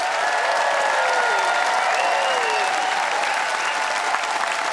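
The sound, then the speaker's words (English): A large crowd claps steadily and loudly for several seconds, a dense, sustained wash of applause with some cheering voices mixed in, no single speaker audible; the audience is voting by applause in a debate on high-speed rail in Canada. “Let's see what the audience has decided by applause.”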